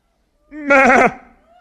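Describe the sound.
A single wavering bleat, like a sheep's 'baa', voiced by a person imitating the animal. It is loud and about half a second long, then trails off into quiet.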